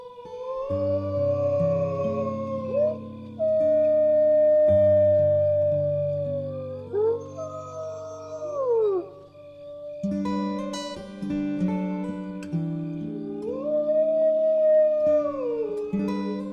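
Several long, wavering wolf howls from wolves sitting on a hillside above a place where humans live rise and fall, overlapping one another above steady low sustained chords, moderately loud and continuous with no talking.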